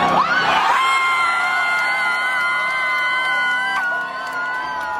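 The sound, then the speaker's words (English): A loud stadium crowd roars and cheers steadily, while one girl's piercing, whistle-like scream rises above it, holding a high sustained pitch that wavers and slides throughout. “There's one girl who sounds like there's a whistle stuck in her throat.”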